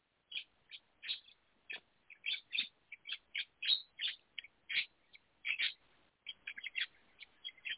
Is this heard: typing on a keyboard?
no